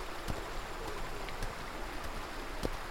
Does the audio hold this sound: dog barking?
no